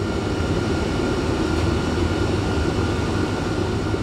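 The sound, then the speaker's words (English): Steady, loud roar of a cargo plane's cabin in flight, a dense low engine drone with broad rushing noise that holds constant throughout, with no voices. “Well, about 10 minutes before the drop, the team opens the back doors of the plane.”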